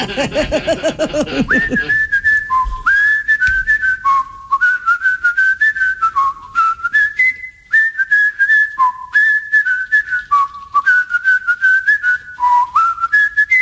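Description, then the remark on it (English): Crisp, clear human whistling from a Toys R Us commercial carries a bright, bouncy melody of short stepping notes, loud, with rhythmic percussive clicks underneath and a brief burst of voices or music at the very start. “All right, so I found on his website, he did a commercial for Toys R Us where his whistling was featured.”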